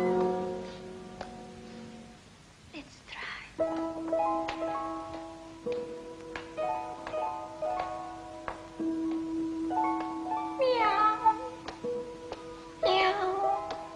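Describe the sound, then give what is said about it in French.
A cat meows a few times, short rising-and-falling cries, over a steady tonal background with scattered clicks; a voice briefly speaks. “Miaou. Miaou. Miaou. Miaou. Why do you cry so much?”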